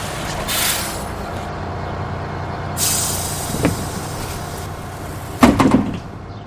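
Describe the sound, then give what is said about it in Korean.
A New York city bus, the number 4, idles in the morning at the corner of 70th Street and Fifth Avenue with a low rumble while its air brakes let out several sharp hisses, ending in a louder burst with a mechanical clunk as a passenger gets off. No one speaks. “그로부터 1시간쯤 뒤 70번가와 5번가 모퉁이에서 4번 버스를 내렸을 때에도 그는 여전히 답을 찾지 못하고 있었다.”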